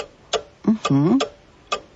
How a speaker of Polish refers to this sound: A co ten zegar jeszcze? Bo to chyba jest stary zegar. Jak myślisz, co? Wahadło. Dobrze, zaliczam. To zegar z kukułką, ale kukułka pewnie jest później.